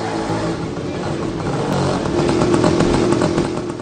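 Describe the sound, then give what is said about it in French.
A newspaper delivery motorbike passes at 6:15 in the morning, its engine droning steadily, the low buzzing rising in loudness partway through as it rolls past, with a faint rattling clatter over the motor. “6h15, ma journée commence avec le livreur de journaux.”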